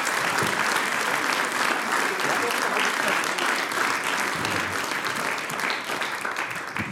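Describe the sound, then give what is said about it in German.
Sustained audience applause for a singing group, a dense wash of many hands clapping at steady loudness for several seconds, with no talk over it, tapering only slightly at the end. “Danke, Applaus nochmal für die ….”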